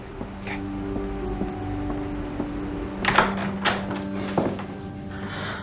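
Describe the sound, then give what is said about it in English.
A woman opens a door with a quick latch click and a couple of soft clunks and scrapes midway through, set against a low, steady background hum. “as she opens the door.”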